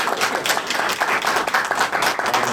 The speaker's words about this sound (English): Well, let's give a round of applause for Mary Robinette.